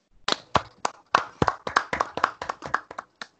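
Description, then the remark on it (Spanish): A short round of hand clapping, about a dozen sharp, distinct claps at a quick, fairly steady pace, with no voices. “Por favor, un aplauso si se puede.”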